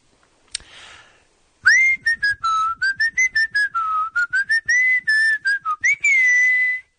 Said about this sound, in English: will be whistling the song. You give us the band and or artist and title. All right. Let's see if I can remember how this one goes.